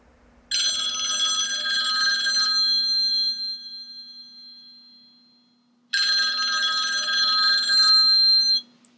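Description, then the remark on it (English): A telephone rings twice through the line on a call made from a phone box, two long bright trilling bursts separated by a short pause, heard alone over a faint steady hum. “She came out of the station and into a phone box nearby.”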